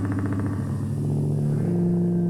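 A motorcycle engine rumbles steadily, its low throbbing idle shifting pitch slightly as it revs, loud and continuous with no voices.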